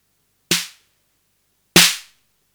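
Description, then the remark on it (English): Two separate snare hits from a normal, unmodified drum machine, about a second apart, each a sharp, bright burst of noisy rattle over a short low tonal thump, decaying quickly into silence, with no one talking. “Let's make the tones the same, so we can just tell the difference between the snappy.”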